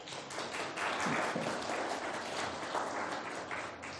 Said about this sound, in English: Okay, thank you very much. Thank you. Let's give them a clap.